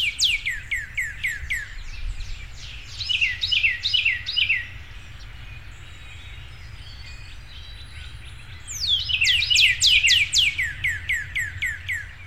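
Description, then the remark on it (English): A male northern cardinal, perched out in the open on Cleburne Street, sings loud, clear downslurred whistles in two rapid series separated by a pause of several seconds, with a low rumble of traffic underneath. “Meanwhile, His Lordship, the great Red Bird of Cleburne Street, thrones up in a smart spot right out in the open.”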